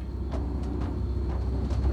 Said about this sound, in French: Vous entendez? Ça doit être le grand aspirateur du bas!